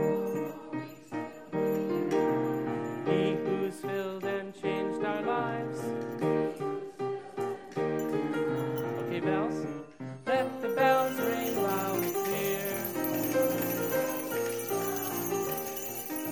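Children sing an upbeat song with accompaniment, ringing small handbells when the song says to ring them; the bright tinkling grows busier and louder partway through and continues to the end.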